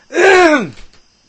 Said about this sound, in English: Let me put the cough button. I can't put the... I gotta clear my throat. I'm not going to put that. You hear that? Hear that? You hear that?